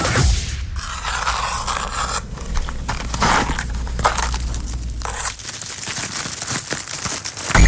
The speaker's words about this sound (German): Der nennt sich ASMR und das ist so ein emotionales Kopfkribbeln, das durch bestimmte Geräusche erzeugt wird. Auf YouTube gerade wirklich der neueste Schrei. Zieh das mal rein.